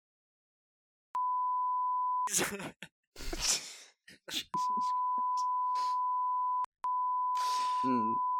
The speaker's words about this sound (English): We'll have to do a beep a lot here.